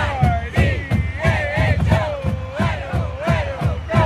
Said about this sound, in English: It's a golden November day in Moscow, Idaho, a college town surrounded by rolling wheat fields. The University of Idaho football team, the Vandals, is playing its last home game of the season. The marching band plays the fight song.